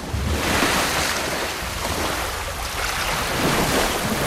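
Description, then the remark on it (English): Water gushes and pours heavily into a well through a hole left by a dislodged brick, in a steady, loud, hissing rush that is continuous throughout, with a low rumbling undertone and no voices. “She dislodges a brick, and water pours in through the hole and over Samara, flushing her back down into the well.”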